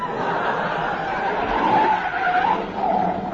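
A car skids along the road, tires squealing in wavering, rising and falling tones over a steady engine roar, loud throughout.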